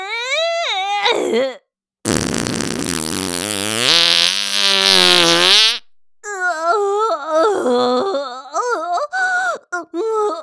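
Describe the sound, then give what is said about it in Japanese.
A long, loud, drawn-out, all-out huge fart from a woman lasting several seconds, rising in pitch as it goes, with her moaning, wailing vocal sounds just before and after it. “ありったけの全力特大放屁ぶちまけちゃった。”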